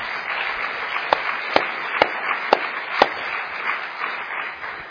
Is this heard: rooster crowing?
no